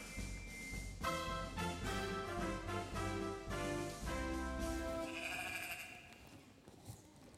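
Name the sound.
sheep bleating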